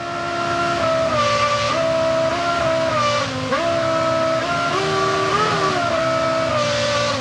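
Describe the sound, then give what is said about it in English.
A real car engine, programmed to change RPM and hold it like musical notes, runs loudly and continuously, its droning harmonic tone stepping up and down in pitch as it revs and settles, with no voices over it. “Oh, that's a real engine.”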